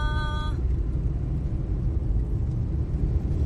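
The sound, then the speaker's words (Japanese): Steady low rumble of a car creeping along in slow traffic as the left lane starts to move a little, heard from inside the vehicle, with a brief high tonal chime at the very start and no voices. “さあやっとちょっと左車線がノロノロの中でもちょびっとだけ動き出しましたかね。”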